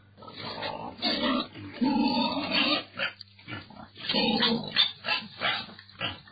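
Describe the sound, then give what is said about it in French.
Pigs grunt and snort in a pigsty at pig sheds about 100 metres west of the Mahama refugee camp in Rwanda, shared by more than 50 breeders, a near-continuous run of rough, throaty grunts with a couple of brief pauses, over a faint steady low hum. “Nous sommes exactement à l'ouest du camp de réfugiés de Mahama, juste à 100 mètres du camp où sont éparpillées les étables de cochons.”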